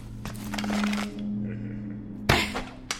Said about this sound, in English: You missed. No, I didn't. Look. I sent the arrow straight at his heart.